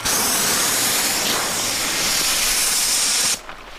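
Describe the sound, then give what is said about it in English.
A bear pepper spray canister, its top popped off and its base supported by a hand, blasts out a loud, steady hiss of spray for over three seconds on a range with paper brown-bear targets, then cuts off abruptly, leaving near silence. “we pop the top off with our hand supporting the base, and then out for spray”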